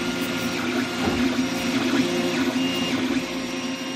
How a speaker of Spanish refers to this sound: Pues es el sonido que hace una impresora 3D al fabricar estas golosinas, de las que puede controlarse absolutamente todo, desde la dosis, pasando por el color, también el sabor.